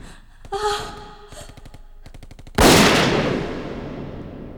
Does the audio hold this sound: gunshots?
yes